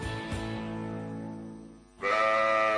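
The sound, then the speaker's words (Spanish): A sheep bleats twice, loud: a long wavering baa that fades out, then a sharper, brighter bleat cutting in right after. No voices. “Aunque no lo creas, una oveja puede ayudarte a prevenir la caries, porque el queso neutraliza los ácidos que deterioran el esmalte dental.”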